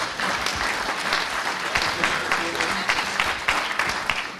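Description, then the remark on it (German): Steady applause from an audience as a speaker goes up to the podium in Gütersloh, a dense, continuous patter of many hands clapping at full volume for several seconds, with no voices standing out. “Sie dürfen ruhig klatschen, wenn so einer aufs Podium geht.”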